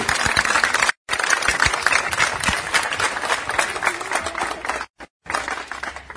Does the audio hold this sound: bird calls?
no